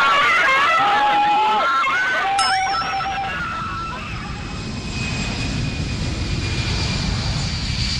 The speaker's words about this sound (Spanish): El avión sigue tomando velocidad, pero no despega. Continúa la carrera y el avión sigue en tierra. Cada vez, el final de la pista está más cerca y en una explosión de histeria general, los pasajeros comienzan a gritar como poseídos.